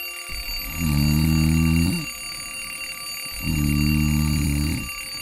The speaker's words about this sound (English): Are you having a hard time waking up in the morning? Your old alarm clock not doing the trick?